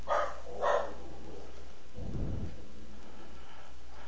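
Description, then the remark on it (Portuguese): A large pet dog nicknamed Chumirim gives two quick barks in succession, followed a moment later by a deep, low rumbling thud, all over a steady hiss of background noise with no talking. “o nome do apelido do meu cachorro é Chumirim.”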